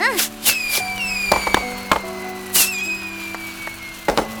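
Fireworks crackle and bang in a steady series of sharp pops, with whistling streaks gliding downward between bursts, loud, with no one talking.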